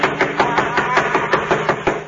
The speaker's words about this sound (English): I'll do the knocking. Doesn't seem to hear us. Oh, he'll hear me.